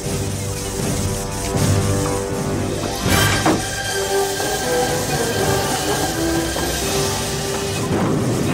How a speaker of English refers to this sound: Okay, all right, so you hear the train taking off. We don't know where Doc's going. Is he going to go into the future or the past? It's left open.